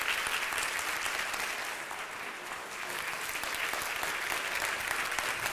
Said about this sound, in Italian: Grazie per questo applauso di incoraggiamento.